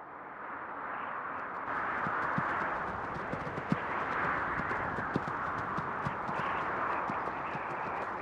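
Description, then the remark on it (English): Hooves clip-clop at a steady walking pace across hard ground, the evenly spaced strikes sounding over a continuous outdoor rush of wind-like background noise. “For more than 2,000 years, countless caravans of mules, horses and camels laden with goods trekked along it.”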